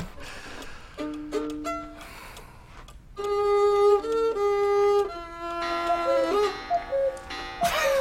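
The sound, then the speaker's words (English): A cuckoo clock chimes a slow tune of clear, sustained tones that step up and down in pitch, moderately loud and ringing out alone, ending with a brief burst of noise. “I've never been upstaged by a cuckoo bird.”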